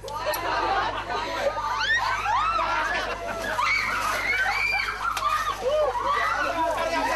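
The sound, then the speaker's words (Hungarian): Water splashes over a group of girls as dancers of the Szabadka Népkör go sprinkling in the traditional custom; the girls shriek and squeal with laughter while a crowd chatters around them, a lively, continuous commotion. “A szabadkai népkör táncosai együtt mentek locsolkodni.”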